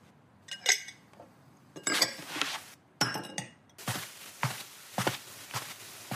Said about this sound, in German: Ich räume nur eben das Geschirr ab und packe eine kleine Tasche.